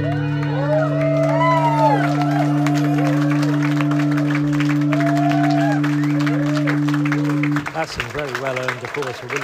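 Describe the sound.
A crowd applauds with dense, continuous clapping, scattered whoops and cheering voices rising and falling over a steady low droning hum that drops out shortly before the end.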